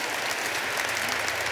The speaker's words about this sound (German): Ihr könnt auch schon mal klatschen. Ja.